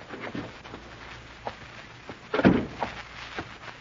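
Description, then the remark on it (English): The main door of the Melrose Building opens and swings shut with a solid thump partway through, on a rainy night at 8 o'clock. A few softer knocks and rattles surround it against a quiet background, with no one speaking. “I shrugged my way through the main door.”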